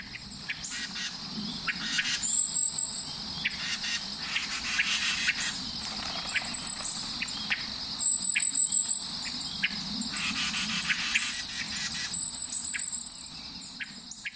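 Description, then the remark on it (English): Hermit thrush chuck calls in western Arkansas: short, dry notes repeated at irregular intervals, set against a steady buzzing insect drone and occasional thin, high bird chirps; Carolina wrens, golden-crowned kinglets and a red-bellied woodpecker are also present. No talking. “The chuck-chuck calls in the following recording are theirs.”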